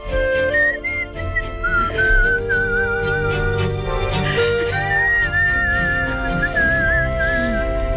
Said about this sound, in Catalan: Ara els hi presento aquest senyor que xiula.